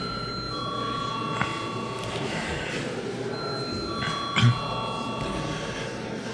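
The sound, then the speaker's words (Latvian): The vote bell of the Saeima, Latvia's parliament, rings as a steady, high electric tone at the close of debate before a vote, pausing briefly once before sounding again, over a low murmur of background noise. “Lūdzu zvanu!”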